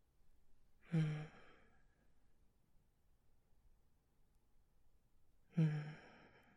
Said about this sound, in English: Just let my breathing lightly hit the back of your head as I caress you and spoon you and hold you close.